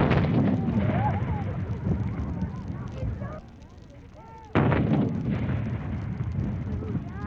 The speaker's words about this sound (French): Il y a en tout 41 coups de canon à donner. En même temps, à la tour de Londres, les artilleurs honoraires de la reine, eux aussi, tirent le canon. C'est fini, le dernier coup de canon vient d'être tiré.